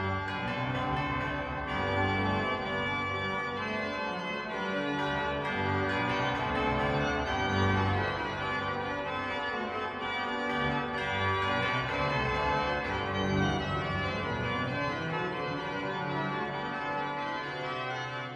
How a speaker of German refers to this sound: Musik von Johann Sebastian Bach auf der Cavalier-Coll-Orgel gespielt, der Kathedrale Notre-Dame.